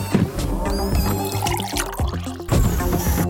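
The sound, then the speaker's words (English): Juice being poured steadily into a container at station three during a human-robot sandwich-making task, a continuous splashing trickle with shifting, ringing tones that lasts a few seconds and swells slightly louder toward the end, with no talking. “I am pouring juice at three.”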